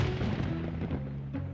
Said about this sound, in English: I think it was thunder. Looks like it's going to rain.